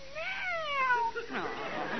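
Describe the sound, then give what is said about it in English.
A person's voice imitates a cat with a single drawn-out meow that rises and then falls in pitch, moderately loud, followed by a brief softer vocal sound. “Pretty cat. You won't be jealous of the little parrot, will you, Skippy? Meow.”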